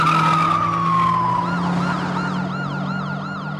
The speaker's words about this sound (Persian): آژیر رو بزن و بریم.